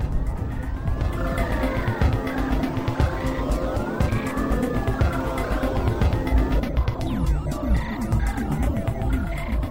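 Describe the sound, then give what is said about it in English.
A vintage VW bus art car, the official art car of VW Bus Camp, built from two 1970s bay window buses, rumbles along, its loud, steady engine drone mixed with rattling and a wavering, siren-like tone that rises and falls throughout. “I just rode on Buszilla, the official art car of VW Bus Camp, which is a it's two 70s vintage bay window buses.”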